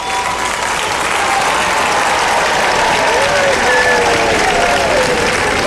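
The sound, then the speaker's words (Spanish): A crowd applauds steadily, a dense wash of many hands clapping at constant loudness throughout, with faint cheers or whistles rising through the noise near the end. The applause honours the young cadets of Chapultepec Castle, 141 years after that day. “Brindaremos un aplauso a los cadetes, los que cayeron en combate, los prisioneros y los que lograron escapar de las balas enemigas.”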